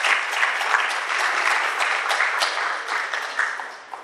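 A crowd applauds a sung performance steadily, many hands clapping in a dense, even wash of sound that holds strong for about four seconds before thinning slightly at the end.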